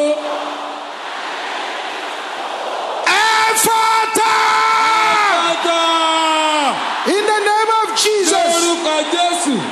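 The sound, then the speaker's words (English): At a prayer meeting, an audience bursts into loud shouting after a few seconds of background murmur, many voices yelling and whooping together in sustained, overlapping waves that stay intense to the end. “Can I hear you shouting this loud?”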